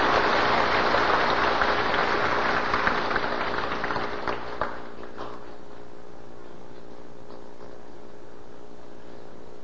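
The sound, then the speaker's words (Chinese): A burst of warm applause from an audience welcoming a Buddhist master to speak, dense crackling clapping that holds steady for about four seconds, then thins and fades to a quiet hum by the fifth second. “下面我们以热烈掌声欢迎先公上人精彩的开始，谢谢。”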